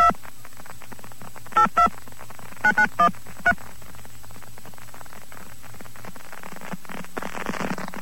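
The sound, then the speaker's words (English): A push-button telephone on a New York telephone line dials a number to reach an operator: about six short two-tone beeps in quick, uneven succession over a steady hiss of line static, which swells noisier toward the end. “Wait, I think I should dial the number first.”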